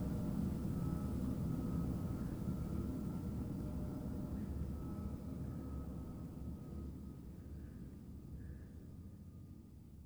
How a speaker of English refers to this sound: If a passenger is looking out of the window right now, they could see how the coast of Sweden would merge into the water. Listen until you don't hear the airplane any longer.